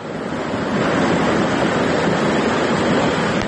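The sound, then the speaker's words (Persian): Floodwater rushes loudly and steadily through the streets of Varukh village after heavy rain, a continuous roar of churning water with no pauses and no voices. “در نوارهایی که کاربران فرستادند دیده می شود که کوچه های دهه واروخ در زیر آب قرار دارند و ساکنان تلاش دارند اشیای روزگار خود را از آب بیرون کنند.”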